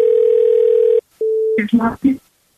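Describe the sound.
A loud, steady telephone dial tone after the other party hangs up on a call holds for about a second, cuts out briefly, returns, then gives way to a short burst of speech.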